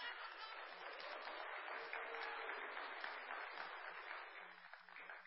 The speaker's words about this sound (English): Everybody knows. We need a lot bigger applause